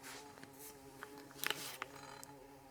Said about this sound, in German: Das ist eine Hummel. Das ist irgendwas, ein Viech. Großes Viech, was hier rumschwirrt. Wir haben eine Hummel im Studio, meine Damen und Herren. Man hört sie.